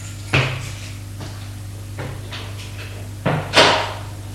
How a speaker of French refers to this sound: Il le fait entrer dans une allée d'un immeuble de 5 étages, cossu. Monte juste au 3e étage. Et Rémi ouvre la porte de son appartement. Entre.